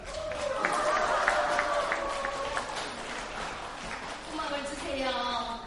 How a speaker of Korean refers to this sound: 뜨거운 박수 한번 해주시기 바랍니다.